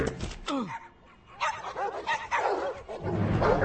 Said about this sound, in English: Oh, dogs.